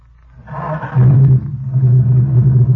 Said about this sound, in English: There, how's that? Well, by George, you wouldn't think it was the same engine. Smooth. Well, I reboard the cylinders and put in all new rings and new set of spark plugs and new fan belt.